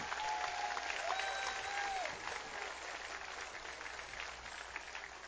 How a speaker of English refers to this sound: I want to have a round of applause for